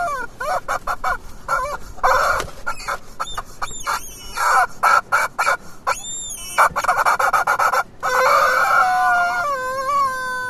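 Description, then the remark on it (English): A chicken clucks in a steady, busy string of short calls for about ten seconds, with a few longer, drawn-out squawks mixed in and no voices. “Love that chicken.”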